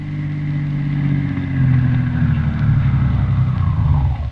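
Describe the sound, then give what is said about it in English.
The doctor's car engine hums steadily, its low rumble swelling slightly as it draws up in front of Windy Smith's house in River's End, then cuts off abruptly at the end. No voices are heard. “Christian and Roy Davis, the druggist, in the doctor's car drawing up in front of Windy Smith's house.”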